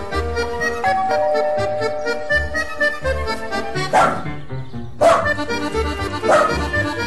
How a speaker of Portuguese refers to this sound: E para de latir, porque senão, ó, não vai ter passeio depois.